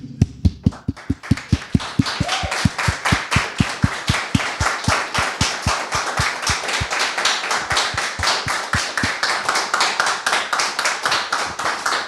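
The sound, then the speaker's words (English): Steady, brisk hand claps repeat at an even pace for about twelve seconds, loud, with no voices over them, like one person or a small group applauding. “I want to applaud you.”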